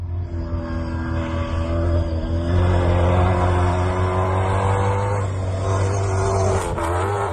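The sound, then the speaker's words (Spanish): A Toyota Hilux rally car driven by Fernando Alonso roars past at full speed during training at Pep Vila's estate in Manresa. Its engine is a deep, throaty drone with strong low harmonics, rising slightly in pitch as it passes, loud throughout with no voices. “Ayer volvió a entrenar a toda pastilla esa velocidad que estáis viendo pasar Fernando Alonso en su Toyota Hilux.”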